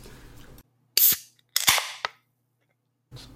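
A beer can cracks open with a sharp metallic pop, followed by a second, longer burst of bright fizzing hiss that fades out over about half a second.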